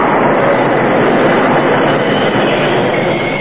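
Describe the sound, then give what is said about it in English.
A Union Pacific train bound for Pine City brakes hard at dawn at the summit of Holly Hill, the engineer jamming on the brakes for a great pine fallen across the tracks less than 100 yards ahead: a loud, unbroken roar of wheels and rails holding steady for a few seconds with a faint metallic edge near the end. No voices. “The engineer jammed on the brakes.”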